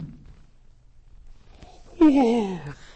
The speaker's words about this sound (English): I'm sorry, this is not at all boring, but very interesting. It's still a yawn. Very unbefitting.